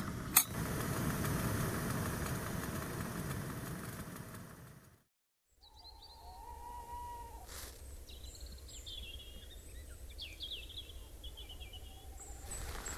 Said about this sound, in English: Oh, and the water's just coming to a boil as well. Perfect timing. Fantastic.